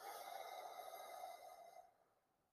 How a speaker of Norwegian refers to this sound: Nå har jeg akkurat tatt på meg en eterisk olje som heter bergamot, og nå kan du puste inn med meg mens jeg puste inn denne eteriske oljen. Så pust dypt inn.